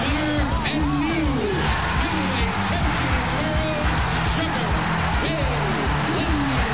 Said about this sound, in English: The crowd chanting Sugar Ray.